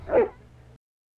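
A dog gives one short, sharp bark while out jogging with its owner, followed by a brief low rumble of background noise that cuts off quickly, with no one speaking.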